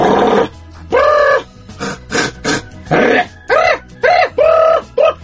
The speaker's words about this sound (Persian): خب آها یه نفر داره میادش با 30 تا گاو.